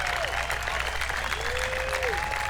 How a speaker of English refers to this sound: Bluegrass fans, let me hear you out there. All the shady people. Just all the people in timeout. Give them a big hand.